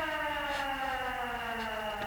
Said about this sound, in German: Wir sind hierher gekommen, weil wir den Alarm von Miranda Kramers Haus ausgehört haben. Da können wir ihn wohl kaum selbst ausgelöst haben.